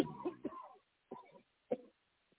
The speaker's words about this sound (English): Who is coughing in the background? Sounds like somebody's not having a good time back there.